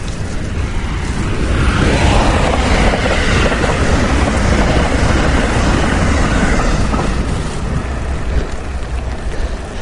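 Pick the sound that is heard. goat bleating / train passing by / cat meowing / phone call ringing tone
train passing by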